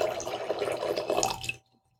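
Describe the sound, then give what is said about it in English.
Liquid pours steadily to refill a glass during a cheese tasting, about a second and a half of bright gurgling splash that rises slightly in pitch as it fills, then stops abruptly into near silence. “And we'll refill the glass a little bit.”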